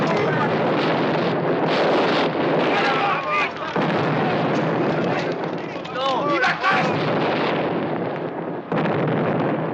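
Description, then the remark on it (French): Ship's cannon fire aimed at the governor's ship booms through a constant roar of wind and churning noise, with a few sharper blasts standing out and indistinct shouting voices rising above the din. “Les pièces sont pointées. Donne l'ordre de tirer. Ouvrez le feu sur ce navire et ne le manquez pas.”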